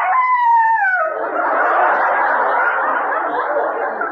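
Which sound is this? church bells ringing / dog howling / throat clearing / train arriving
dog howling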